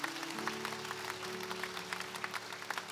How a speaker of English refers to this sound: Can you clap for Jesus one more time?